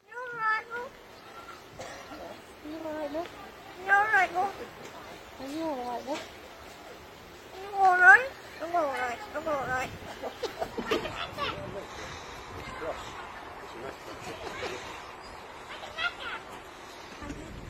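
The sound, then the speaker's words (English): A crow trained to mimic human speech says "I think I'm all right" and "are you all right, love?" with a British-sounding accent: a run of warbling, pitch-gliding vocal phrases in short bursts, followed by rougher, noisier chattering toward the end. “It may be a little hard for some of our listeners to hear, but the bird says, I think I'm all right, but in a British accent.”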